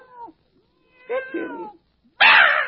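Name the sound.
cat meowing and yowling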